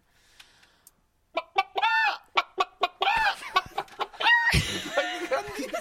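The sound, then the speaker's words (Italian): A person imitates a clucking hen, a rapid series of sharp, pitched clucks building into a louder, squawking burst after a second of near silence. “Cazzo, ma sembra una gallina vera.”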